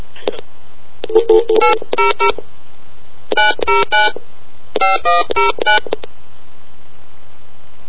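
A rapid series of telephone keypad dialing tones as a phone number is dialed again, short electronic beeps in three quick bursts separated by brief pauses, clear with no talking.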